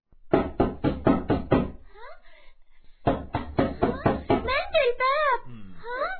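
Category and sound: household object, knocking on a door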